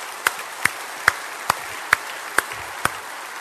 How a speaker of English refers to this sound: Give her a nice round of applause. She does a great job.